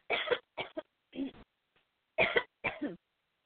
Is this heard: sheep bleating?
no